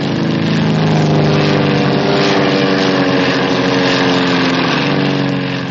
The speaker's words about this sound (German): Da brummt eine Kunstflugstaffel vorbei.